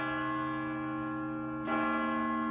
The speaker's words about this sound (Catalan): Per què han callat tots? Perquè estaven sonant hores amb el rellotge. Les 7. Sí, les 7.